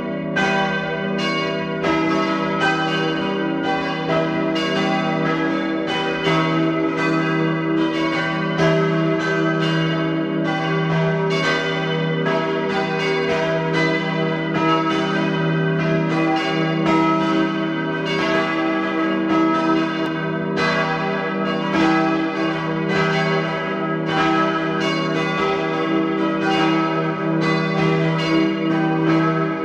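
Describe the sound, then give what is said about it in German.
The bells of the parish church in Riedau, Upper Austria, ring together at 12 noon in a steady, continuous peal, their overlapping tones swelling and ringing out loudly with rich, lingering resonance and no voices present. “Sie hören die Glocken der Pfarrkirche Riedau in Oberösterreich.”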